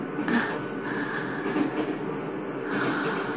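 A steady, continuous rumble from inside a moving, crowded train carriage, heard at the back of the train, with low mechanical drone and faint rattling rising and falling slightly. No one speaks.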